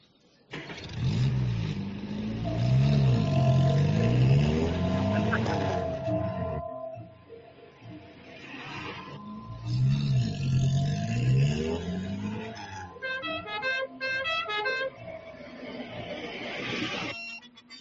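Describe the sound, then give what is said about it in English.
Small golf cart engines rev loudly and continuously, pitch rising and falling in repeated surges as the carts race, with brief dips between bursts and a busier, rattling stretch near the end. “Yeah, they should have gotten like stock cars instead of taxi golf carts.”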